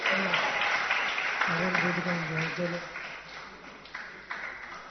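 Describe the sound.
An audience claps steadily throughout, a dense crowd of overlapping hand claps, while a voice speaks over the applause partway through.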